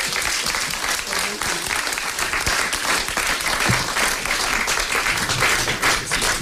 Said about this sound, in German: Großer Applaus nochmal für die Jungs.